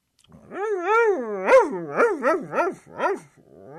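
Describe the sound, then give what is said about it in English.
An old hound dog howls: a long wavering cry that breaks into a string of five or six rising-and-falling baying yowls, loud and clear with no one talking. “And under the tree was an old hound dog.”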